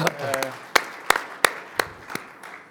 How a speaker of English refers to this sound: So I think we should all start by giving a big applause to all the editors. Thank you so much.